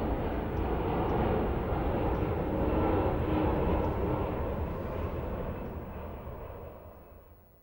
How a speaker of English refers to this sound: A plane takes off against a leaden sky.